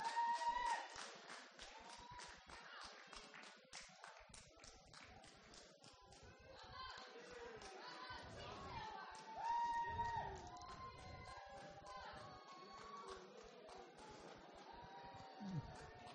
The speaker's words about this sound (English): Who says you don't get exercise when you come to church? You've all done a relay race. Blues winning at the moment. Yeah, feel free to cheer if you want to cheer for your team.